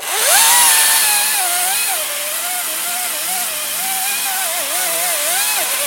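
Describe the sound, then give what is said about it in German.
A chainsaw roars steadily while cutting through a tree trunk to fell the tree, its engine pitch wavering as the blade bites into the wood, loud for several seconds with no talking. “Der kommt zum Händler und den sägen wir jetzt mal ab.”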